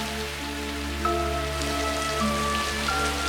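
Heavy rain pours down in a steady, dense hiss that never lets up, with sustained droning tones held underneath it throughout.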